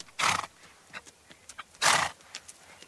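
A horse gives two loud, breathy neighing bursts about a second and a half apart, with light clopping and shuffling sounds between them and no one talking.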